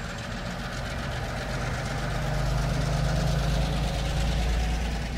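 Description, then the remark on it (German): A diesel locomotive rolls into a busy railway maintenance workshop, its heavy engine rumbling steadily with a low, throbbing idle, growing slightly louder midway, with faint mechanical clatter over the drone and no voices. “Gerade rollt eine Diesellok in die Werkstatt, in der Hochbetrieb herrscht.”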